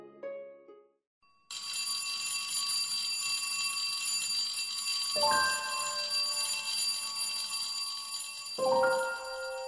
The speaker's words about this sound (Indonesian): Bel istirahat berbunyi.